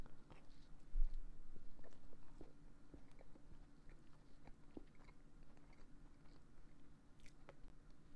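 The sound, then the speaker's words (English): Soft chewing and biting sounds with small crunchy clicks from the sugar glaze, a steady mouthy rhythm of someone eating a glazed donut, quiet with no talking. “The crunch from that sugar.”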